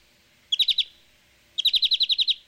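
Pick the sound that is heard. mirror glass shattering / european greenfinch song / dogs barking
european greenfinch song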